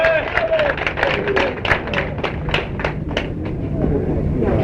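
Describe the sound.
An audience breaks into steady applause, dense overlapping claps running for several seconds at a fairly even loudness, with a voice speaking over the start.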